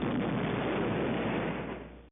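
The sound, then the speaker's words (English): A distant explosion rumbles as a muffled, steady roar for about two seconds, dense and low rather than sharp, then cuts off abruptly. No voices are heard. “A distant explosion is heard.”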